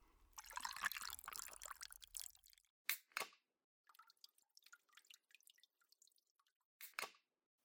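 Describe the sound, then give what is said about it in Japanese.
A cider bottle is pulled from a bucket of ice water with a brief wet slosh, then scattered drips fall at irregular intervals into the quiet. “そこのおけ、氷水にサイダー使ってるっしょ。”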